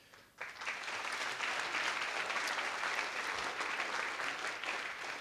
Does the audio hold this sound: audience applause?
yes